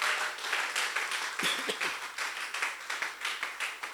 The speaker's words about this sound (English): Oh, clap your hands one more time for the Lord.